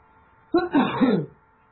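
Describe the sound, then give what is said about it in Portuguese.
A single short, throaty cough burst lasting under a second, fairly loud, breaking out of near silence with no talking around it. “eu fico tossindo.”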